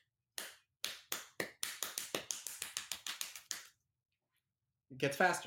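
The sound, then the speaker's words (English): A comedic impression of how a drummer knocks on a door: a run of sharp knocks, starting slow and spaced out, then quickening into a rapid, uneven patter before stopping; a voice starts up briefly after a pause. “So this guy, it's almost kind of a take on that where it's this is how drummers knock on doors.”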